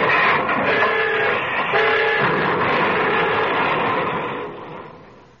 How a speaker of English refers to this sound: The crack express, the Red Arrow, is hurtling through the night, proud, competent, sleek, assured. The semaphores drop, the towermen at wayside stations waver through. The train is approaching Altoona.